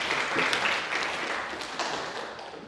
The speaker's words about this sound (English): Don't clap, throw money.